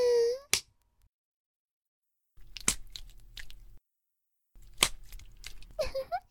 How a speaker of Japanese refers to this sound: ほら、ぐったりしてちゃダメ！あたし、まだお尻ペンペンしてるんだよ。